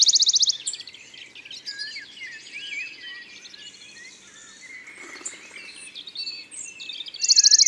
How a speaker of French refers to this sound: Ce petit pouillot vient de revenir d'Afrique, du sud du Sahara. Et c'est un fameux voyage pour un oiseau qui pèse 10 grammes.